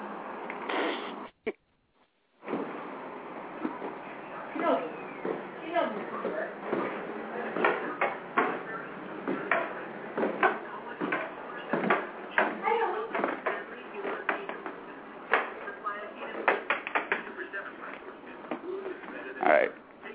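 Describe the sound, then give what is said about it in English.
A bedroom closet door rattles and bumps over and over in irregular bursts, fairly loud, as a pet paws and pushes at it trying to get into the closet, with a brief pause near the start. “Right now, she's trying to get into my closet.”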